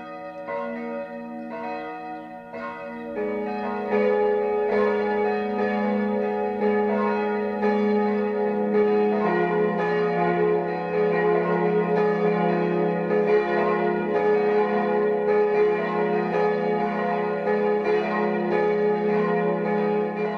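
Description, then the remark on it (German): Church bells of the church in Frauenried, Upper Bavaria, ring out in a full midday peal at 12 o'clock. A single bell starts, then more bells join within seconds, and their loud overlapping tones hum on continuously with no voices. “Das Mittagsläuten kommt heute aus Frauenried in Oberbayern.”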